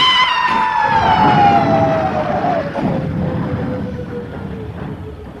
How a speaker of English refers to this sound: look out for the ambulance! Move back, look at me!